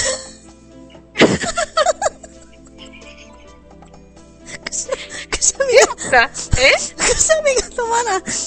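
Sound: repeated sneezing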